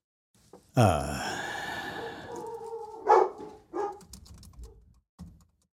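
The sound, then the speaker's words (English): A dog lets out a loud, drawn-out bark that trails into a whine, followed by three shorter, sharper barks spaced a second or so apart, with no talking. “Apparently, my dogs are beside.”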